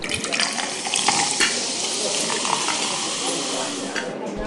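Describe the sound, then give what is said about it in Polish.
A fizzy drink is poured into a glass and foams up, a steady splashing pour with crackling foam hiss lasting several seconds, moderately loud, with a few small clinks near the start. “No, i teraz nalewamy.”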